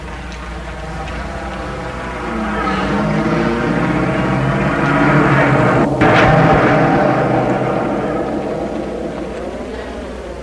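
A car engine turns over and catches, then settles into a steady, humming rumble that swells louder as the vehicle pulls away, with a brief sharp knock partway through. A chauffeur gets into the car, starts it and drives off into the night.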